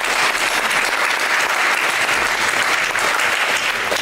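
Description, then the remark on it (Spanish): A crowd claps steadily for about four seconds at Country Day school, a dense, even wash of many hands with no pauses and no voices rising above it. “Aplausos por eso.”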